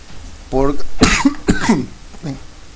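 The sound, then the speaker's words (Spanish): Two harsh, explosive coughs, each followed by a rough voiced rasp. A throaty groan comes first, and a softer cough trails off at the end. “Puse pausa para toser y sigo tosiendo.”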